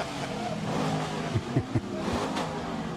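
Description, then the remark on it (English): A Corvette engine idles with a deep, steady rumble, broken midway by a few quick, punchy throttle blips before settling back down. No one speaks. “I've never owned a Vette. They are so cool.”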